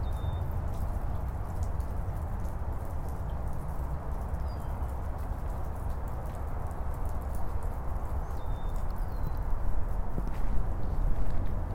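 Steady footsteps crunch along a rocky, gravelly path past green grass and blossoming cherry trees at an even walking pace, continuous, with a faint bird chirp in the background.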